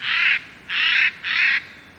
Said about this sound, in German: Eichelhäher.